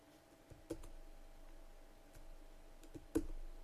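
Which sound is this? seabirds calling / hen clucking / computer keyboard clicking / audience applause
computer keyboard clicking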